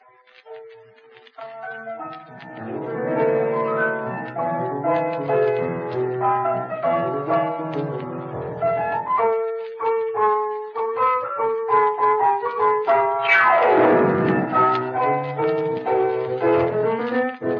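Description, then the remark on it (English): Lively rumba music plays steadily with no voices, a busy melody riding over a syncopated rhythm, with a couple of quick sweeping runs rising and falling through the tune. “That is the rhythm of the rumba.”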